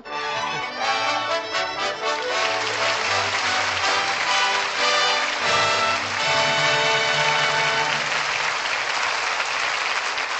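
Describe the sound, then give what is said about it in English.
An audience applauds steadily for about ten seconds for a performance by Ray Milland and Maureen O'Sullivan, a dense, even wash of many hands clapping with no voices breaking through. “Ray Milland and Maureen O'Sullivan are back at the footlights, and that applause says they're guilty.”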